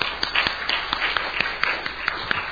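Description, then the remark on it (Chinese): An audience at a worship service clapping together in welcome for a first-time visitor, in steady, moderately loud applause, with many overlapping sharp claps forming a continuous patter throughout, no voices standing out. “OK， 非常欢迎您哈，对，从德州来，非常欢迎，我们一同鼓掌欢迎。”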